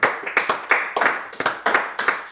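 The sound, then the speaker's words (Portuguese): A short round of applause for the birthday of José Mourinho's daughter Matilde: brisk, sharp hand claps in a quick, slightly uneven rhythm, loud and steady for a couple of seconds with no talking over them. “Portanto, sala de palmas.”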